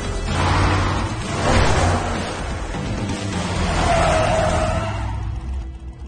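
A car engine roars loudly and close by, with broad rushing noise and a brief tire-like squeal as it speeds in, sustained for several seconds with no voices.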